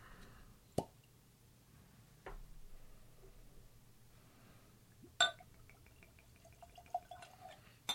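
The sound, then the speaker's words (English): Barrel Bourbon Batch 33 being poured and spilled: a few sharp glassy clinks and a wet plop, followed by small drips and tinkling taps in otherwise quiet surroundings. “I can't pour for shit.”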